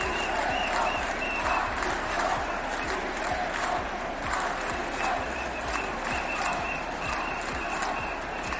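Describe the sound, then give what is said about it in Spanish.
A rally crowd of more than 10,000 people in the Plaza de Santa María in Jaén, called by the Partido Popular against the amnesty, shouts and claps continuously, a dense roar of voices mixed with steady applause and rhythmic chanting bursts throughout, loud and unbroken. “Más de 10.000 personas desbordaban ayer en la Plaza de Santa María para gritar no a la amnistía que Pedro Sánchez, que el Partido Socialista Obrero Español, ha pactado con Junts.”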